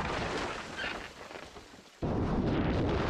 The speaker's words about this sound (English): Okay, so that's what a plane crash looks like on a GoPro mounted to the wing of a small engine plane.